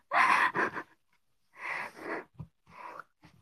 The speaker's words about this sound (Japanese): 疲れた？なんかちょっと息切れし始めた。